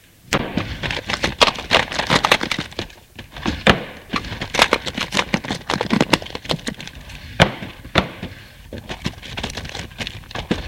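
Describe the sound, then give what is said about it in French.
The drawers of a desk are yanked open one after another by a woman searching for something, a rapid, irregular run of wooden thumps, knocks and sliding rattles with no voices. “Elle les ouvre tous.”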